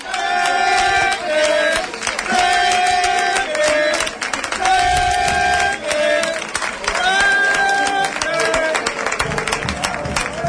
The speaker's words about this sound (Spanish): Escuchan ustedes la megafonía, esa música, esos aplausos, esa ovación de las aficiones, y es que ahora también sale el decano del fútbol español. Esto está a punto de comenzar. Escuchen ustedes a la afición recreativista.